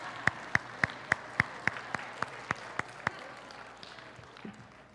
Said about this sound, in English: I don't know where you guys went. I gotta have to help you know where to clap these days.